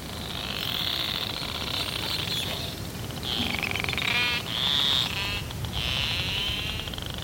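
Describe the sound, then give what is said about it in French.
Clicks from the narwhal Fram 2, recorded by fixed hydrophones, repeat so rapidly that they blur into buzzing, creaking calls used for feeding and navigating. The fairly high-pitched bursts come in several waves over steady underwater hiss, with no one speaking. “Et ces cris que vous venez d'entendre, c'est des clics qui sont tellement proches, l'un à l'autre, tellement près, l'un à l'autre, que ça devient un creak, hein, au lieu d'un toc, toc, toc, toc.”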